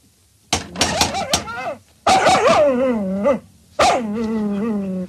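A dog barks loudly several times in a quick burst, then gives two longer, drawn-out growling calls with brief pauses between them.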